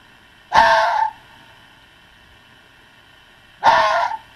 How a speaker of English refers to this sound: So there's another one. That's a fox screaming.